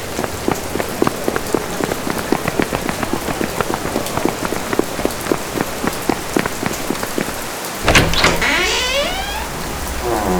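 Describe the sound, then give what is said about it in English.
Heavy rain pours down near the Church of San Zaccaria in a dense, steady patter of drops, joined near the end by a loud whooshing swell of sound over the downpour. “It's really starting to rain now.”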